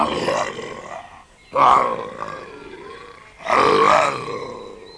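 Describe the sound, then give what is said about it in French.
A voice imitates a tiger roaring: three loud, drawn-out, growling roars, close up, each swelling and then trailing off, with short pauses between them. “En entendant venir Sudhi, un tigre qui habitait non loin du village sortit des bois et rugit.”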